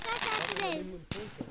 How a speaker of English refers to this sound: And these are like heavy duty fireworks that shoot up in the sky and explode.